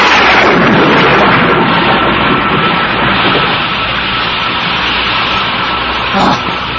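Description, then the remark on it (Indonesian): A loud, sustained rumble of thunder rolls on for several seconds, dense, with a brief sharper crack near the end, as the weather looks about to rain. “Kenapa tiba-tiba ada suara petir?”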